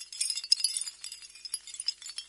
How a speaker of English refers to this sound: Yes, I'd call that sound a kind of tinkling sound. A tinkle. OK, so we've had a buzz and a tinkle.